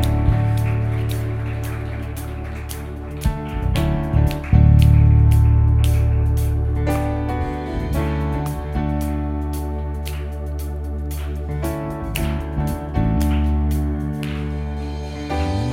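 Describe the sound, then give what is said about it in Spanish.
A church audience claps for God during a morning worship service, in irregular bursts over sustained organ-like chords, the crackling patter of hands steady throughout, swelling near the middle before settling back under the held harmonic tones. “Estos aplausos son para ti esta mañana.”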